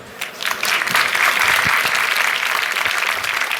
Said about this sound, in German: So, als erstes Applaus.